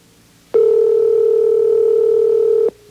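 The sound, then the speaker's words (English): A steady, loud telephone dial tone hums on one unbroken pitch for about two seconds as someone calls the mayor of Detroit, starting and stopping abruptly, with no voices or other sounds around it. “And so now we'll call the mayor again.”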